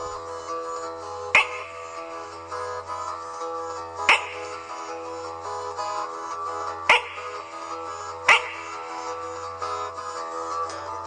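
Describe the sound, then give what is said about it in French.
Frogs croaking: four short, sharp croaks at uneven intervals, standing out over a steady, sustained musical background with no talking. “Et même de temps à autre, on entend certaines grenouilles qui font...”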